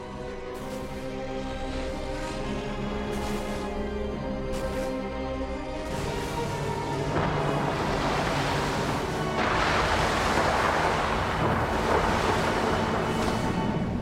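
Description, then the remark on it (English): Stormy seas roar continuously, with waves crashing and a deep, rumbling undertone of thunder, the turbulent wash swelling louder midway through as the thunder and lightning worsen and the waves get higher. No voices are heard. “churning the stormy seas outside as the thunder and lightning worsen. The waves get higher and higher.”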